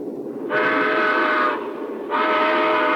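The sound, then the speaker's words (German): A train running from Moscow to Nizhny Novgorod rumbles steadily while a loud whistle sounds twice, each blast lasting about a second with a brief gap between, prominent over the running noise. No speech. “Im Zug von Moskau nach Nizhny Novgorod.”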